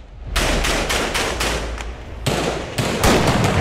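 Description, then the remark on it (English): A masked man fires a rifle into the air as he walks past the camera in a street march, about seven loud, sharp cracks in an uneven rhythm over a few seconds, each with a brief ringing tail, with no voices audible. “A masked man fires a rifle in the air as he walks past the camera”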